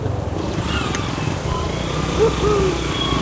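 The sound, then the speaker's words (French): A family's motorcycle that cannot move forward, with people helping push it, its engine droning roughly and continuously, a low rumbling mechanical noise that holds steady throughout with slight surges in loudness. “Là, on est tous descendus et pour pouvoir passer, là, il y a une famille là, qui n'arrive pas à faire avancer sa moto.”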